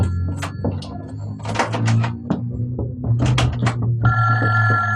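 A telephone on a hotel room nightstand rings with a sustained bell-like tone near the end, just after a door is closed, preceded by clattering, tapping sounds, all over a steady low hum.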